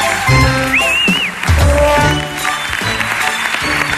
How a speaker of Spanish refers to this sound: Un aplaudiment pel quadre escènic.